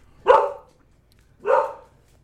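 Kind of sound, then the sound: animal, dog barking in hallway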